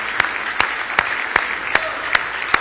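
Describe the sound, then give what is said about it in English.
A church audience claps its hands in praise in a steady wash of applause, punctuated by sharp, evenly spaced louder claps landing roughly every few tenths of a second, with no voices. “Now give him a big hand clap of praise if you love him tonight.”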